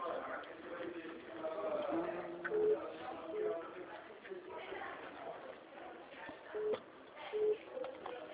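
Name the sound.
mobile phone ringing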